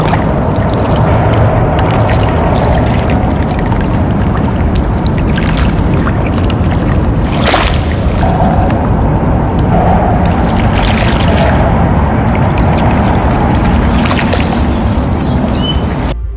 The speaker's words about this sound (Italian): Noi sullo sciabordare dell'acqua del Mississippi andiamo a chiudere questa puntata